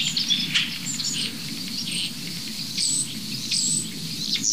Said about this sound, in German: Da haben die Starre sich gerade eben bewegt, aber die drehen gerade völlig durch. Ich weiß nicht, ob man das Rotkehlchen noch gut raushört. Da unten das plätschernde, perlende. Und immer wieder diese hohen Vögel.